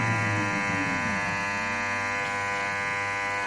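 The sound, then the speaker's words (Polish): An ABS brake system pulsing as a car brakes hard with a locked wheel gives off a steady, harsh electric buzz with a dense, rattly drone that holds evenly for a few seconds, with no one talking. “W momencie, gdy koło się zablokuje, system powinien wydawać dość dziwne dźwięki. Te dźwięki powinny być teraz słyszalne.”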